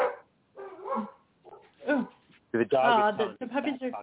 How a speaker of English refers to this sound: The puppies are talking about Creep Out. They're so excited, as you can tell.